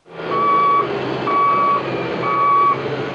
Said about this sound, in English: Public works trucks line up to load sand onto their flatbeds.